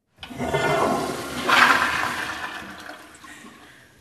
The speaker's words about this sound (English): So that was the toilet flushing, which we're very proud of because we're using recycled water and we've been able to save over 1.5 million gallons of potable drinking water